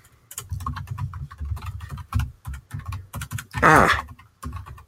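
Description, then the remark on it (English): Rapid clicking of keys on a small computer keyboard, fairly loud, with an uneven rhythm of keystrokes and a brief louder burst near the end, as a note is typed. “I'm going to make a note about this in the show notes right now.”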